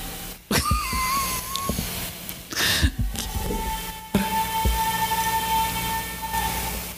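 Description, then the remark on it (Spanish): A woman screams desperately in faint, drawn-out cries: a wavering high wail, a burst of noise, then a long sustained high-pitched cry that lingers for a couple of seconds. “Yo no sé si nuestros oyentes están escuchando eso, pero hay una mujer gritando desesperadamente.”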